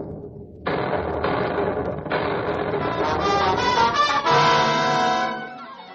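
A series of mysterious booming explosions sinking the freighter Star of Cape Town off the coast of Africa bursts out in quick succession, swelling into a continuous loud roar and rumble with a rising tonal wail near the end before fading.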